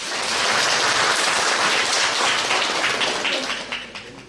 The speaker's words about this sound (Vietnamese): Xin cho một tràng pháo tay ạ.